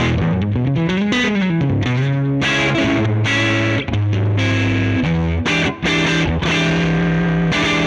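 A heavily overdriven electric guitar amp, its volume (gain) knob set around 10, gives a thick, bass-heavy, Fender Bassman-style distorted tone as a run of chords and sliding notes is played, loud, with no talking.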